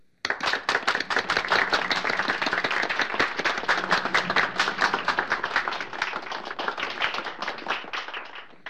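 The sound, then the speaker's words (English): Steady, loud applause from a crowd, many hands clapping rapidly in a dense, continuous patter that holds for several seconds before easing slightly near the end. “So let's bring him in with a nice round of applause.”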